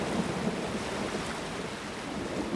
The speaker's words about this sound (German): Denn das aufgewühlte Wasser dringt tief nach Friesland ein. Gleichzeitig toben Schnee- und Hagelstürme und es blitzt und donnert. Kurz gesagt, ein Unwetter wütet, auch in Sanfirden.